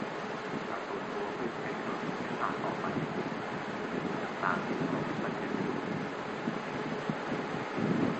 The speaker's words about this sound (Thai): ลมมันพัดไม่ค่อยได้ยินเลยต้องใช้เครื่องขยายเสียง